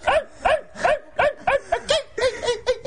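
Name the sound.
dog barking or whining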